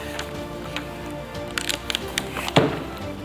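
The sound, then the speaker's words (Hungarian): An embossing seal clamps down on paper with a few small mechanical clicks and creaks, then one firmer, crunchy press near the end, fairly quiet against a steady low hum. The seal presses the academy's emblem into the paper in three-dimensional relief. “Nem hiszem, hogy a közvetítésben látható, ilyen háromdimenziós nyomással az akadémia szimbóluma van itt, ide nyomva akadémia címere, úgyhogy akkor ezt a továbbiakban használd.”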